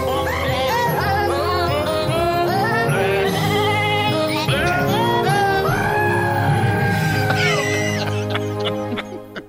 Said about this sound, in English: These are they're kind of like dwarfy-sized goats. Yeah. And they make human screaming noises.